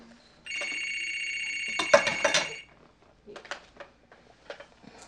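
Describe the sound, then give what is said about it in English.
A telephone in a nursing home rings loudly in one sustained electronic burst lasting about two seconds, with clattering handling noises near its end, followed by a few faint murmurs and small sounds; the caller hangs up before it is answered. “Oh, I think I missed the phone.”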